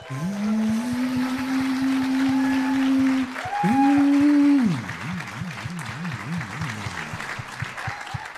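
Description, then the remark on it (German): A crowd claps steadily and fairly loudly throughout, with long wavering electronic tones sliding up and holding over the applause for the first few seconds before fading into bouncing warbles. “Einmal weniger Applaus.”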